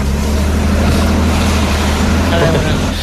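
vehicle, car engine driving

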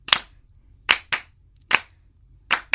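crowd, audience clapping

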